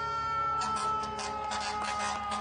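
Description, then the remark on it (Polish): Fire engine sirens wail steadily, joined after a moment by a crowd clapping and cheering over the continuous tone, as firefighters arrive in front of hospitals in New York. “Każdego dnia natomiast przed szpitale przyjeżdżają strażacy. Biją brawo, jak słychać, włączają też syreny.”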